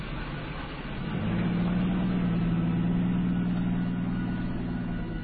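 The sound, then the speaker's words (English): A car engine idles with a low, steady droning hum that swells after about a second and then holds evenly to the end as the car backs out along a muddy dirt road, with no voices. “Now, this road, you can see the car backing out here.”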